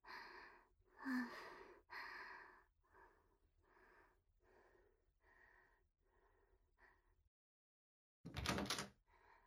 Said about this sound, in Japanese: あ、扉が開きました。よかった。やっぱりなんか引っかかってたみたいですね。